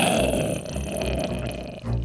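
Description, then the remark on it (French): A voice imitates a ghoul's abominable gurgle: a loud, throaty rumble that bubbles and rasps for about two seconds, ending with a brief deeper surge. “Est-ce que vous pourriez essayer de faire un abominable gargouillement ?”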